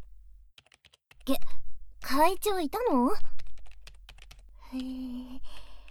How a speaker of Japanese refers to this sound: ありゃ、キーボードの音。